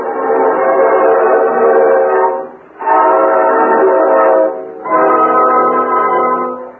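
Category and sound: vehicle, distant steam train whistle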